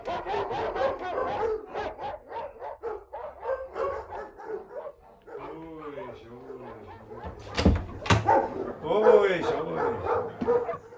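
Several dogs bark rapidly and excitedly at a bell rung for a visitor in a waiting room, overlapping in a dense burst, followed by yips and whimpering howls and a few sharp loud barks near the end.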